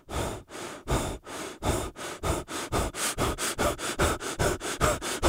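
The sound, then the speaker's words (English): Harsh, gasping breaths of a person having a heart attack repeat in a steady rhythm that gradually quickens, each one a loud, ragged intake of air, with no talking. “Such as listening for the unique breathing pattern that some people make when they're having a heart attack.”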